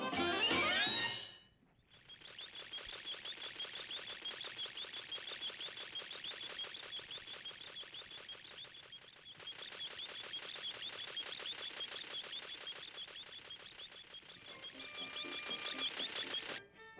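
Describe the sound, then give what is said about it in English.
A lawnmower runs steadily for about fifteen seconds, a loud, rapid mechanical clatter with a high whining edge and a brief dip midway. No one speaks. “Well, it's either the lawnmower or I can hear you thinking.”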